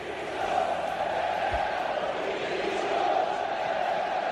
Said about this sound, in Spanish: Mucho malestar en la afición del Sevilla tras la goleada del City y el mal comienzo en la Liga del conjunto sevillano, donde solo ha sumado un punto de los últimos 12. Ayer en la grada del Pizjuán, gritos de Pepe Castro dimisión.